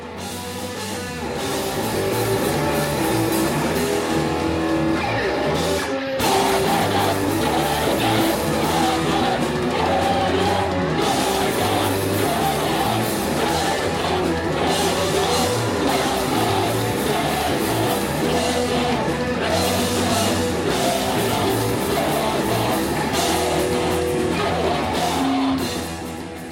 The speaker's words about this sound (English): The crowd starts moshing to the music.